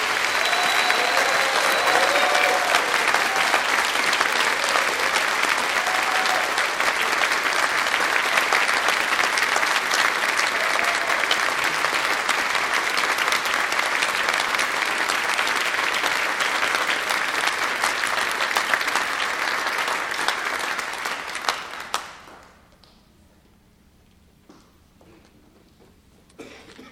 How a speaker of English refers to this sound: You may now offer your applause to all of these graduates.